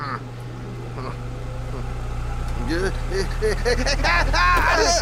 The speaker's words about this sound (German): Der Ventilator! Der macht den Wind. Ach ja, den haben wir ja heute aufgestellt. Ja, weil es so heiß war. Und dann völlig vergessen. Der macht doch das Geräusch.